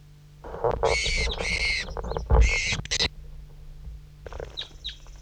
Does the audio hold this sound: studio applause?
no